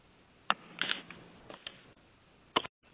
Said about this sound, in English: Okay, we're still not seeing input, although we are hearing somebody typing. If you're not on mute, if you could please mute.